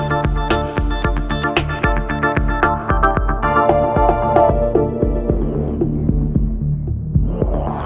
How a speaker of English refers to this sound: It's my favorite effects. And lastly, filter.